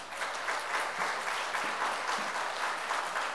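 Steady applause from a sizable crowd, a dense even patter of many hands clapping continuously at moderate volume throughout, with no voices standing out.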